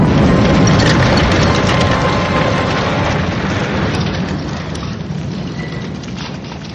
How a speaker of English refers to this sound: The explosion blocked the tunnel, though.